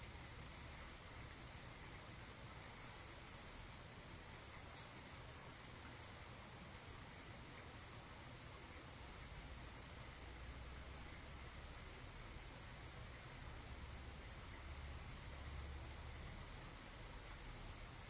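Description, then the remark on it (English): Steady rainfall hisses evenly throughout, a dense, unbroken wash of droplets with a faint low rumble underneath and no voices. “Let all of them just be one with the rain.”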